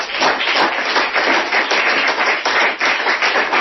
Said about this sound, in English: Okay. You don't have to clap. Well, if you're clapping for God, that's all right. Don't clap for me.